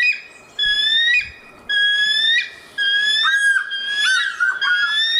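A red-tailed falcon calls with several shrill, piercing cries, the first few steady and separated by short gaps, the last ones wavering and sliding downward. Loud and high-pitched, with no talking.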